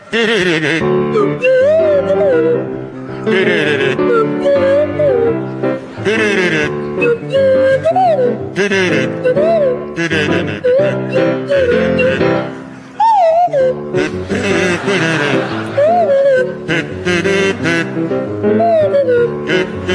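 A buzzy kazoo and a sliding swanee whistle play a bouncy, jaunty tune together for about twenty seconds, with wavering swoops in pitch over a steady rhythmic backing.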